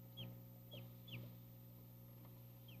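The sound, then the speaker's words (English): A newly hatched baby chicken peeps in short, high, downward chirps, four of them spaced irregularly, over a steady low electrical hum. “It's a baby chicken.”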